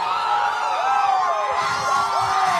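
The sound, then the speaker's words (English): A crowd outside the Supreme Court cheers loudly and continuously after the court struck down Roe v. Wade, a dense wash of whoops and high shouts with rising yells breaking through now and then, and no single voice standing out. “After the Supreme Court struck down Roe v. Wade, which legalized abortion, there were cheers outside the court.”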